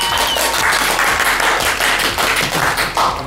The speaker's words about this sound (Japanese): さあ、いよいよあさって2月25日日曜日、長岡ものづくりフェア2024開催決定をしております。拍手。